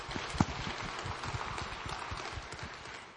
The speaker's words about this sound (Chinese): 我们为到站在台前的这位第一次来的新朋友，我们把最大的荣耀归给神，我们也鼓掌来鼓励他，好不好？